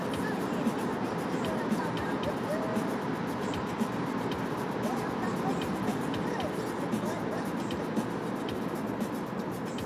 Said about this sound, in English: I am weaving through traffic right now at an alarming pace.